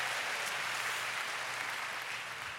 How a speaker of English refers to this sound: Give the Lord one big hand clap. Hallelujah.